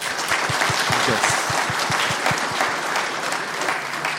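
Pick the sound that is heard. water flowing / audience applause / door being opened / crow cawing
audience applause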